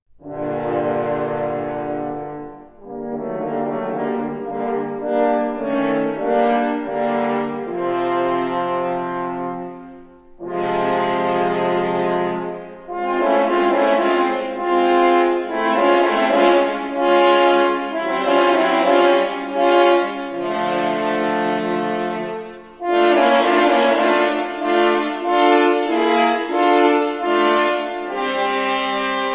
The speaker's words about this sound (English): The wolf by the French horns.